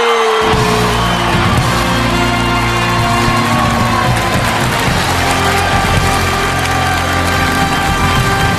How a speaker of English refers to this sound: and claimed the award, and the crowd just went wild.